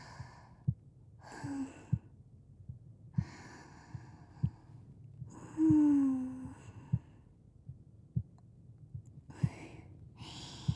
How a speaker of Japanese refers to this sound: 聞こえているのか？心臓の音。